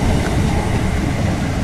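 A train rumbles past, a steady, loud, low roar filling the whole moment with no break in intensity. No one speaks.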